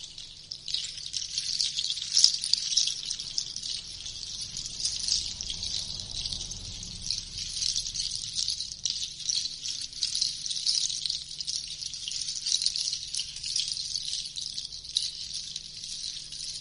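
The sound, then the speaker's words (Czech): A steady, shimmering cascade of tinkling from a water-themed crystal chime, like light rain pattering, continuing evenly throughout at moderate loudness with no one speaking. “Su mi vodeni vodeni bajbovi u kombinaciji sa kišom.”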